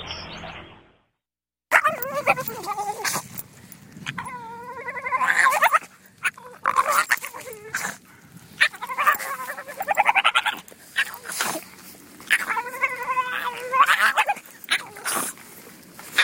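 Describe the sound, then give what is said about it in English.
A small Boston Terrier named Hugo, held in someone's arms on the perimeter trail at Blake Island, lets out a run of gurgling, throaty chortles and snorty yips in repeated bursts, with brief pauses between calls. “started to let out this chortle in an attempt to call them back”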